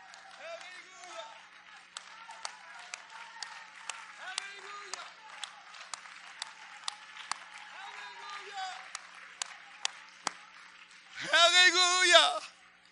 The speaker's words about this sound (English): Let's all stand and let's clap our hands for God.